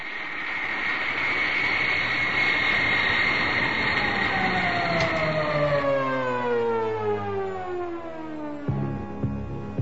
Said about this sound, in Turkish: Çıkış açısı hesaplandı. Motorlar ateşlendi. Kalkıyoruz.